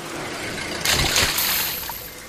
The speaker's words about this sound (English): Hey, where's the money? Gone. Washed it right down the storm drain.